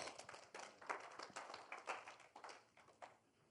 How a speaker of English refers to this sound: Clap for the Lord Jesus.